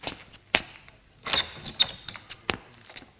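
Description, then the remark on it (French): A grandfather opens his apartment door after the doorbell rings: a sharp latch click, then a rattling clunk with a faint high squeak of hinges, followed by a few lighter knocks and a final click. “Le grand-père lui ouvre.”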